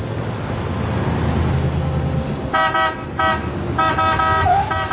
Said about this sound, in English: What's he honking his horn about? Jeez, crikey, did you see that?